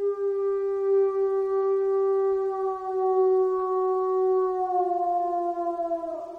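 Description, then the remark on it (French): A coyote howls in the distance in a forest at night under a full moon: one long, steady, mid-pitched note held for several seconds, sagging slightly in pitch at the end, with no voices over it. “Puis, en soirée, quand le soleil est couché, c'est la pleine lune qui se lève au ciel, puis ils entendent au loin des hurlements.”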